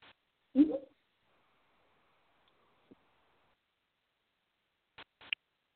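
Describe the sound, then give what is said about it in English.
A single short meow from a female domestic cat, followed by near silence with a few faint clicks and taps. “My little cat came here to say hello.”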